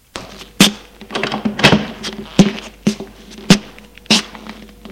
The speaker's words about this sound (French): Voilà ta chambre, la 5. Il ouvre une porte.